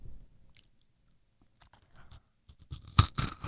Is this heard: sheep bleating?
no